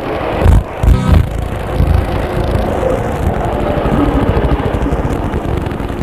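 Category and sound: vehicle, helicopters flying overhead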